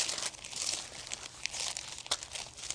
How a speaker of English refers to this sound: Let's go to, I'm going to move my paper.